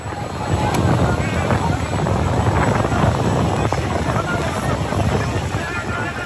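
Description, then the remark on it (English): A chaotic outdoor scene at the airport in Port-au-Prince, Haiti, on a Tuesday: a loud, steady roar of aircraft engines and wind buffeting the microphone, with indistinct crowd voices as migrants just deported from the U.S. try to rush back to the planes they arrived on. “Here's sound from some of the chaotic scenes that unfold at the airport at Port-au-Prince on Tuesday.”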